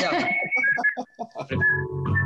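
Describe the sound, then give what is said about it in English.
A person whistles a few loose, wavering notes, warming up after not whistling in a while, with short breathy pauses between phrases and some background rumble toward the end. “I'm going to warm up the whistle. I haven't whistled in a little while.”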